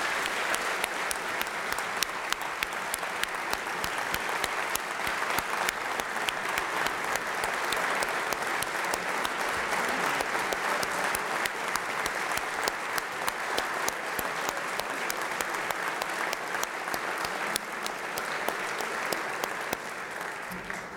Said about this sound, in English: And that includes my loving husband, who filled the shoes as the first gentleman of the state of Oklahoma. He deserves a round of applause for that.